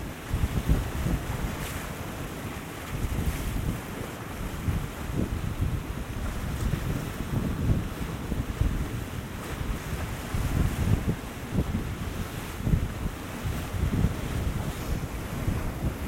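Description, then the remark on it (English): Rough sea surf crashes and washes continuously on an incoming tide, waves breaking with a hissing spray while gusty wind buffets the microphone; no voices, just steady, loud coastal roar. “That one was, that sea spray was just a wee bit closer. So obviously, I'm thinking the tide's still coming in yet.”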